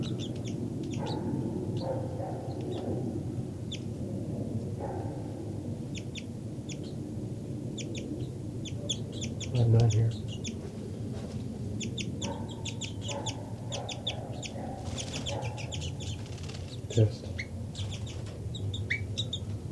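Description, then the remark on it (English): Short, high-pitched flight calls from a bird identified as 5-9 repeat throughout, coming in quick clusters of chirpy notes over a steady low rumbling background, with no voices. “5-9 continues to give flight calls.”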